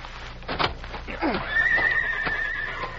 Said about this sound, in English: Those are the Clayton horses, all right.